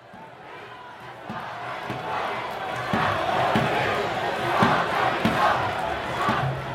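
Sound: crowd of protesters chanting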